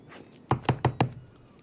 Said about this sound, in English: James knocks on the CO's door.